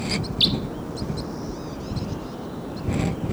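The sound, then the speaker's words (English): Several birds call with short, high chirps and whistled notes as they fly down, scattered across the moment, one sharper call standing out, over a steady low rumble of wind outdoors. “Birds may be coming down. Oh, there they go. Well, here they come.”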